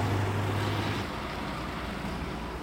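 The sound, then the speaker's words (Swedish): Steady, broad rumble of busy street traffic beside one of the city's largest hotels, a continuous wash of engine and road noise with a low droning hum in the first second, no distinct single vehicle standing out. “Det är ganska trafikerat här.”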